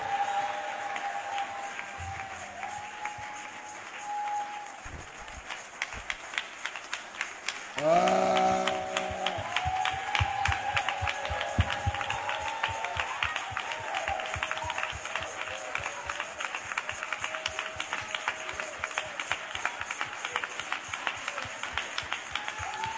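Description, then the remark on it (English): An audience claps steadily for the whole stretch, a dense rhythmic patter of many hands, with a brief swell of voices and a held tone partway through. “Are you clapping?”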